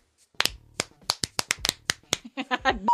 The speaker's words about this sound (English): One of those weird claps. Yeah, where it doesn't quite. You know where sometimes it hit the good spot?